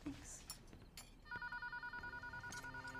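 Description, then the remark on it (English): A telephone starts ringing partway through with a steady, rapidly pulsing electronic trill. It sounds fairly loud over a few soft clicks and some background noise. “stares at the phone in her hand, then puts it to her ear.”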